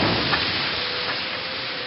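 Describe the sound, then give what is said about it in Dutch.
A loud burst of hissing steam as soup from a tureen is dumped onto a fire, a steady sizzling rush that holds for about two seconds with no voices. “Hij vatte de soepterrien met beide handen beet en stortte de inhoud op het vuur.”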